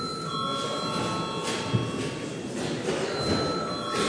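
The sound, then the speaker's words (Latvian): A parliament session bell, rung at the chair's request before deputies register their presence, rings continuously for several seconds, a steady high-pitched electric trill of unbroken tone over a bed of noise, with no voices. “Tad šobrīd lūdzu zvanu.”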